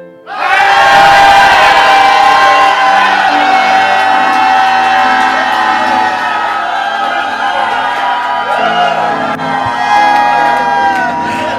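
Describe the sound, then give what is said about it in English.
A large crowd shouts and cheers together on a count of three after a prayer, one loud, sustained roar that starts suddenly and holds steady for about ten seconds, a dense mass of raised voices with whoops mixed in. “It's good to shout in this land.”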